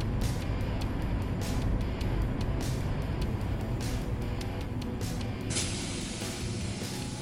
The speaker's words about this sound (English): The music rises as your bus tears forward, leaving the roller raptors in your dust as they just give up, hanging their heads in the forever shame of the douchey surrender.